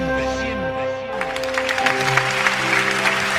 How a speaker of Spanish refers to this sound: Y se rompe ese minuto de silencio con los aplausos espontáneos de la gente.